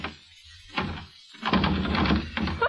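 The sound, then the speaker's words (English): A bolted door is shoved and rattled by its doorknob, first with a single dull thud, then a longer flurry of knocking, jostling thumps as it is pushed repeatedly, moderately loud. “The door's bolted, you dope.”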